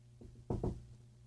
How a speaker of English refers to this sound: I'm going to do two knocks, and you tell me which one would you fall for.